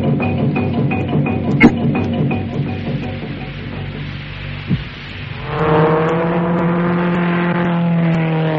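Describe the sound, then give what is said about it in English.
In an advertisement for Johnson's Rally car wax, a car engine rumbles with a rough, pulsing idle, then revs up into a loud, steady, rising whine as it accelerates. No one speaks. “A man who knows how to handle his car.”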